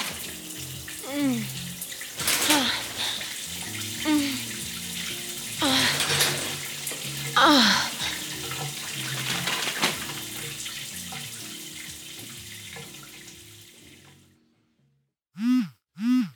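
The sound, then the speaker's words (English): Water runs steadily for about fourteen seconds in an enormous hotel shower, a hissing spray with occasional soft vocal sounds, then stops, followed by two short warbling electronic tones. “The shower was enormous. We fully disrobed and got in.”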